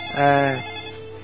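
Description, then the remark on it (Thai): A telephone rings once in a short, loud electronic burst with a buzzy, tonal quality, then cuts off, leaving a quiet background hum. “อ๋อเห็นแล้วนะก็คือคุณโยมท่านใดโทรศัพท์ใหม่อ่ะสักครู่ก็แล้วกันนะโยมนะ”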